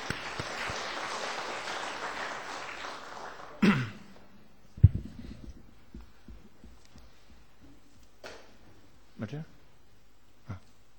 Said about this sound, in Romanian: Aș vrea să le aplaudăm.